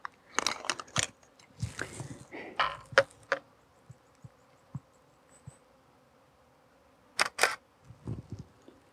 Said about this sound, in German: Jo, ich werde jetzt mal ein Stück weitergehen und sicherlich zwischendurch auch wieder ein paar Fotos machen, so wie da jetzt gerade.